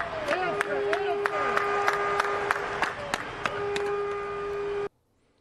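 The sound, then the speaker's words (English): Scattered, uneven handclaps ring out over a steady wash of stadium crowd noise at a baseball game, with a sustained tone and a few wavering voices mixed in, before everything cuts off abruptly; the applause follows Adam Eaton's hit off Gerrit Cole in the bottom of the first inning. “the bottom of the first when Adam Eaton did this off of Gerrit Cole to a smattering of applause.”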